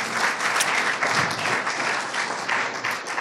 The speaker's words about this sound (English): Well, let's give it up first with a round of applause.